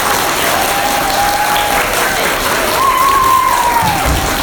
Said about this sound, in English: Give Team 1 a round of applause.